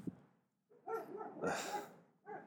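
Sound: dog barking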